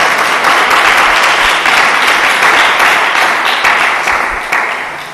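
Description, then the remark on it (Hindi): Loud, sustained applause from a large crowd giving a round of applause for Jesus Christ after a prayer, a dense wash of many hands clapping steadily for several seconds without pause, with no voices standing out. “यीशु मसीह के लिए जरा जोरदार तालियां देंगे।”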